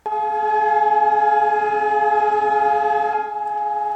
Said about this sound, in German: Auch in Israel wurde mit einem nationalen Gedenktag an die Opfer des Holocaust erinnert. Landesweit ertönten 2 Minuten lang die Sirenen.